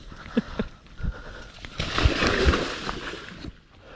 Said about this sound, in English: Okay, so now he's walking back. We heard the alligator go into the water. That splash was the alligator going back into the water.